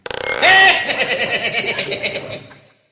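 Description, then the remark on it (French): A comic vocal imitation of Alain Chabat's farting fly: a brief whistly tone swells into a loud, raspy, rapidly pulsing buzz that flutters for about two seconds, then fades out. “Bah si, la mouche qui pète, Alain Chabat.”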